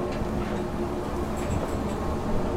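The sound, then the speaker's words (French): A steady, dense jet engine roar of an aircraft at full throttle just before its catapult launch, loud and unbroken, with a low droning hum running through it and faint high whines flickering above the rumble. “Et là on est plein gaz, on l'entend.”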